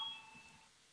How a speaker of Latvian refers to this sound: Lūdzu zvanu. Balsosim par trešo juridiskā biroja iesniegto priekšlikumu.